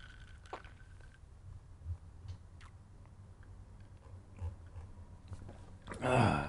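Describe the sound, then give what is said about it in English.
A sip from a cocktail glass: a brief, wet slurp near the end after several quiet seconds of low hum and a few soft clicks. “However, I am going to take a nice sip of this here cocktail first.”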